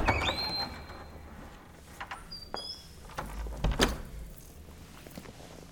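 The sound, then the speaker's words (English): A few soft footsteps and small clicks, then a door swings shut with a low, solid thud; otherwise quiet, and nobody speaks. “Go with him. And close the door.”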